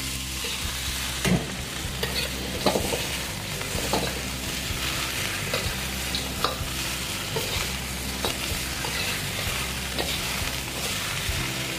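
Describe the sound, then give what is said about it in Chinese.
Pork trotters stir-frying in a hot wok, added after the ginger is fried until fragrant and turned to absorb the ginger flavor: a steady sizzle with a spatula scraping and clacking against the pan every second or so, and no voices. “好，稍微爆香了以后，我们就可以把我们的猪脚放进来，好，然后把它稍微翻一下，好，让它跟姜的味道先稍微吸收一下。”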